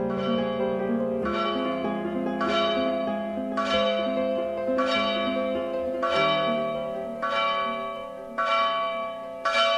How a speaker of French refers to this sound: Les cloches de l'abbaye Saint-Antimo résonnent 7 fois par jour dans la vallée, et ce avant chaque prière communautaire. Au milieu de collines plantées d'oliviers et de cyprès, cette abbaye bénédictine a été construite au XIIe siècle.